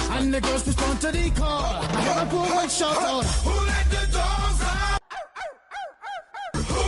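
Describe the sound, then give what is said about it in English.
Hillary imitates a dog barking with a rapid string of short, voiced, yelping barks, first over loud crowd noise, then five or so sharp barks alone with quiet gaps between. “I mean, it's just like when Hillary started barking.”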